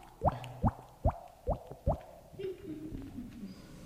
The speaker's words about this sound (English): Hey, your faucet's leaking.